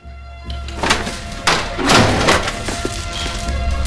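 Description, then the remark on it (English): A pair of heavy doors to the cluttered courtyard of a factory complex is forced open with a series of dull thunks and scraping, rattling bursts, the loudest coming about halfway through, over a steady low hum. “Hing forces open a pair of doors to the cluttered courtyard of a factory complex and steps inside, followed by Fowler leaning on his stick.”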